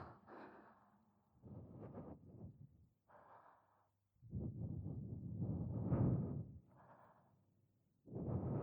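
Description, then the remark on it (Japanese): Soft, airy breaths blown very close to the ear, a series of gentle exhalations of varying length separated by brief pauses, intimate and quiet with no talking. “では吐息も、”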